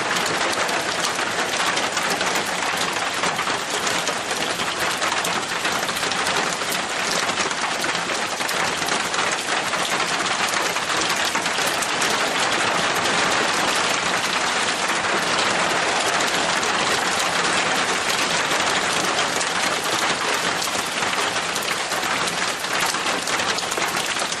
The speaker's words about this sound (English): Sound like the rain's really getting heavy.